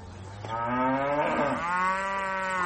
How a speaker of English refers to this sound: Across the East African community, the Ankole cow from Western Uganda's Ankole region is one of the much cherished of all indigenous cattle. In fact, many prefer calling it long-horned cattle.